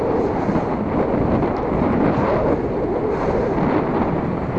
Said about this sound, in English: I hope you can hear me with all this wind